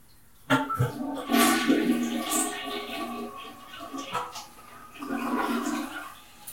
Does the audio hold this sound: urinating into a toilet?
yes